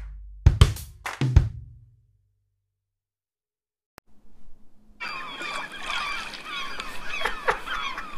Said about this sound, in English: We've moved to the seaside. We have. We've gone. Ooh, some proper seagulls. Maybe put it down, just in case it dominates the microphone. I'll move it down. Hopefully just people can hear it in the background.